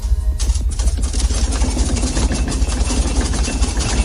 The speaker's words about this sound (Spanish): Abres los ojos y lo primero que te despierta es un fuerte temblor, un zumbido y los cristales de tu casa tintineando sin parar.